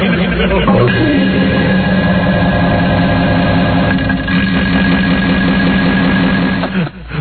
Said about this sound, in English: We're waiting to do the fart sound effect. Well, that's way too much reverb. All right, let me try the farts with reverb.